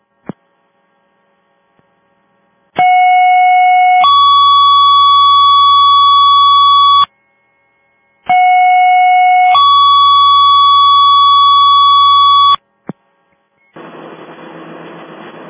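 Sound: fire dispatch alert tones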